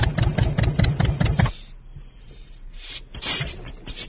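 A tractor engine chugs loudly in a steady rhythmic beat for about a second and a half, then drops to a quieter low rumble with a few brief louder bursts.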